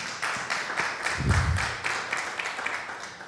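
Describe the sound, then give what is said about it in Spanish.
An audience claps to applaud the Lord in a steady, dense wash of many hands, with a rhythmic beat pulsing through, holding at moderate loudness with no voices on top. “Aplauda al Señor.”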